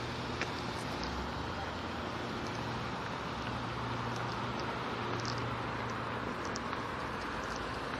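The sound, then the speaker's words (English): A steady, low roadway rumble of cars and trucks in the morning fills the background, with an engine hum underneath and no distinct pass-by swells. The level is fairly quiet and constant throughout. “Cars and trucks and crap.”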